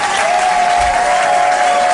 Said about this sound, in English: Ah, let's just bring him on. A nice big round of applause for the star of the evening. It's Eddie Large.